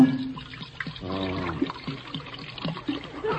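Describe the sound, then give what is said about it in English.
Beer pours steadily into a hat, called a 5-gallon hat and then a 10-gallon hat, to fill it to the brim: a continuous splashing, gurgling stream of liquid with a brief bubbly, tonal glug early on, moderately loud and with no voices. “Just fill it to the brim with beer for me to go out a sipping.”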